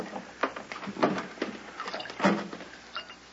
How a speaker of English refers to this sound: Listen. What is dripping? Wine? Hardly. Come on. Dripping is growing louder.